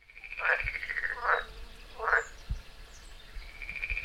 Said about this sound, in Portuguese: Quem começou foi o sapinho.